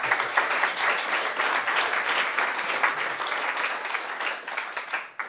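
An audience at a design forum applauds the panelists at the start of the afternoon, dense overlapping claps forming a sustained, moderately loud wash for several seconds that tapers slightly at the end, with no voices over it.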